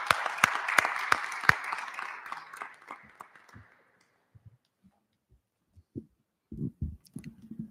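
A burst of applause: many hands clapping densely at moderate volume, thinning out and fading over about four seconds, followed by a few scattered sounds and brief low voices.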